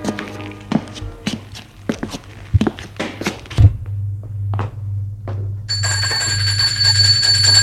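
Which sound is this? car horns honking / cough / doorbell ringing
doorbell ringing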